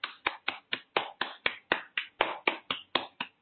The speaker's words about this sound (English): Clapping now for the lung area. So going from one side of the chest to the other, just clap in front of it. Your fingers can be pointing upward, your fingers can be pointing forward. It's okay. Just clap in front of it.